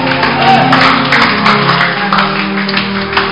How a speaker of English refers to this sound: Clap for Jesus.